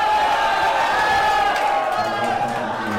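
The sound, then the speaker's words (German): A crowd of a few hundred men at a cockfight on a Sunday afternoon, packed on wooden stands, shouts and yells loudly and continuously, cheering on the roosters they have bet pesos on: a dense, sustained roar of many overlapping voices with cheering cries rising through it. “Ein paar hundert Männer fiebern an diesem Sonntagnachmittag lautstark mit. Schreien den Hahn, auf den sie ihre wenigen Peso gesetzt haben, nach vorne.”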